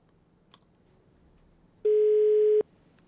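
A single steady electronic telephone tone sounds for under a second over a faint background hum, preceded by a couple of soft clicks, as a phone call to the founder of Club Klassiek connects.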